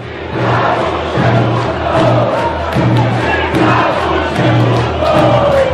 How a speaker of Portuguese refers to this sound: Luxemburgo, atual técnico do Grêmio, neste jogo foi ovacionado pela torcida que tinha um pedido. Fica.